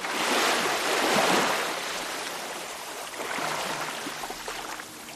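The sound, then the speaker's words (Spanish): Sea waves wash and slosh steadily around a cayuco boat carrying people toward the Canary Islands, a broad hiss of surf swelling and easing, with light wind and no voices. “Una vez en la playa, cuando los patronos del cayuco dan la orden, se echan al mar.”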